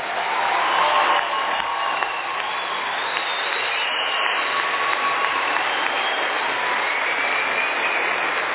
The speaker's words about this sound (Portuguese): Eu quero agora que o pessoal de azul do SENAC se levante e, da mesma forma, vamos aplaudi-los.